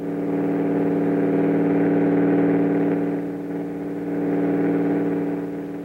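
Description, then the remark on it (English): A propeller airplane engine drones steadily, a loud low humming buzz with layered tones that swells and dips slightly over several seconds, with no voices. “There it is. You were right. A plane once more.”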